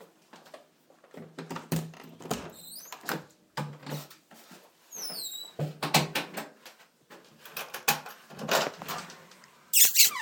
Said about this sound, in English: Squeaky door.